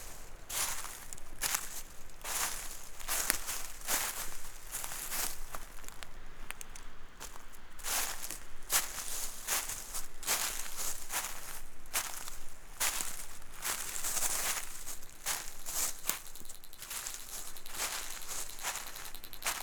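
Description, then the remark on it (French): Steady footsteps crunch through dry dead leaves, each step a crisp, crackling burst repeating at an even walking pace, with soft rustling between steps and no voices. “Le sol croustille, les feuilles mortes.”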